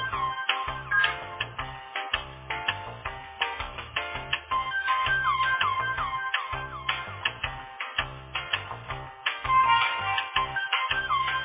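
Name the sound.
telephone ringback tone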